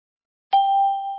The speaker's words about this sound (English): That's my watch alarm.